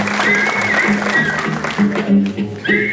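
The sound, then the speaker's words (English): A crowd cheers and applauds loudly and continuously, with raised voices whooping over a steady wash of clapping for a few seconds. “So the crowd goes wild.”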